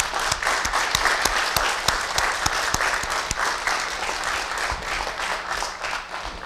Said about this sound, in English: Before we get to that, can you all give the choir a round of applause?